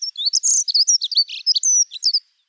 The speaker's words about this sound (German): haben wir natürlich nochmal eine Vogelstimme für euch, eingepackt in den Rahmen des Vogel des Tages. Und wir hören erst einmal rein.